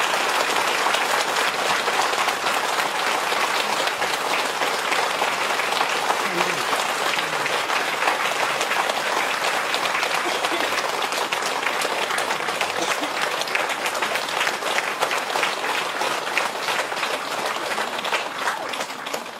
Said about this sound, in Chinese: 让我们用热烈的掌声恭迎上师。